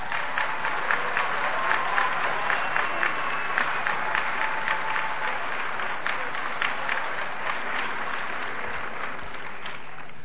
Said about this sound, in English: And for others, we might need a nice refresher, and he's going to come on and give us some knowledge. So please give a warm round of applause to Dr.